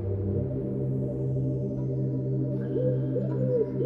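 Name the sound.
wood pigeon cooing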